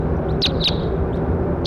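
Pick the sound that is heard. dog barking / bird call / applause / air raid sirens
bird call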